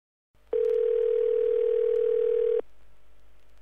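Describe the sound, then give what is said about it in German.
A steady, clear telephone tone holds for about two seconds at a loud, even level, then cuts off abruptly, leaving a faint line hiss with no one speaking; it comes before an automated telephone information message from the service hotline of the Holzleitner Elektrogeräte repair workshop. “Sie hören eine automatische Telefonauskunft.”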